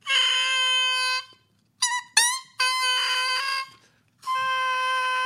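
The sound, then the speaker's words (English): A double reed crowing alone: buzzy, reedy calls in loud sustained blasts, broken by short rising squawks, sounding two pitches, a high and a low. “Now, that one has a better crow.”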